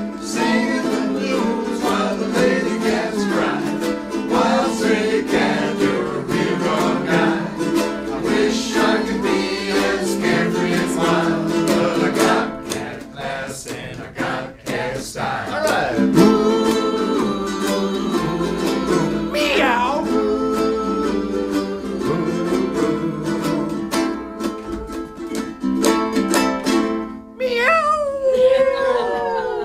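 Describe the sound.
A ukulele ensemble strums and plucks a lively, continuous song with singing voices, played on a public radio station in Laguna Beach, ending in a few voiced cat-like yowls, loud throughout.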